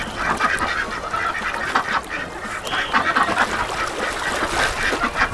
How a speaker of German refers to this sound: Da ist ein kleiner See mit Enten.